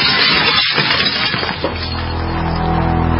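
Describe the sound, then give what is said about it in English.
A window smashed in a smash-and-grab home break-in: a loud crash of breaking glass with splintering debris for over a second, then a steady, low droning tone that holds to the end. No one speaks. “In the U.S., one in every 50 homes will have a break-in this year. Burglars call it smash and grab.”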